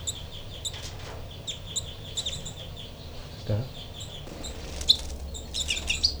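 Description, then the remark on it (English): Thin, high-pitched rain calls from two baby birds, numbered 426 (the younger) and 425 (the older), repeat in quick, irregular chirps throughout, fairly faint, with a brief spoken word partway through. “Burns 426, the young baby, and 425, the older baby, are both getting rain calls.”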